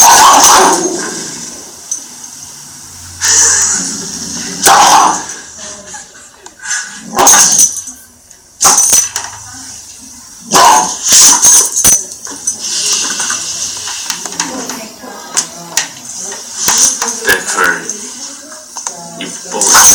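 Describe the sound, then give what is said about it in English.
A boxer dog barks and growls in loud, irregular bursts, with scuffling and splashing-like noise filling the gaps between the barks. “It's a boxer, right? This is a boxer.”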